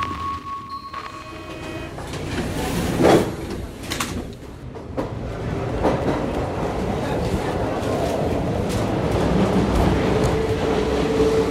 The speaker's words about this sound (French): Bon, voilà sur la ligne 3 du métro parisien, une ligne qui traverse Paris du nord-ouest à l'est, plein est.